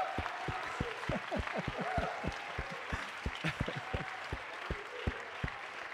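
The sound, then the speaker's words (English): An audience claps for several seconds for the presenters from all four weeks, with sharp, uneven hand claps piling up over a soft murmur of voices at a steady, moderate loudness. “Come on, let's give everybody a hand clap, all the presenters from all 4 weeks.”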